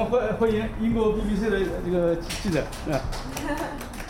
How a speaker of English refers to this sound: On my arrival out of the lift, I'm roundly applauded by staff.